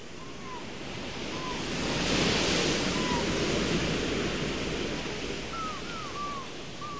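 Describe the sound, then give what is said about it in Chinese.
Ocean waves surge in with a broad, rushing wash that swells to a peak midway and eases off, while faint bird calls chirp briefly above the steady surf. “大海的波浪涌了上来”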